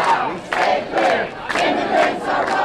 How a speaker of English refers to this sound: Thousands of demonstrators descended on Philadelphia International Airport today, filling 5 different McNamara terminal locations with full-throated anger.